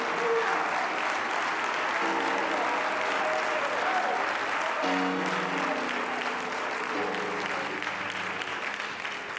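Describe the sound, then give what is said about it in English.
An audience claps steadily and loudly in praise to God at a night service, a dense continuous wash of many hands, with faint sustained organ or keyboard tones underneath and scattered crowd voices. “One more time, clap your hands and give God some great praise.”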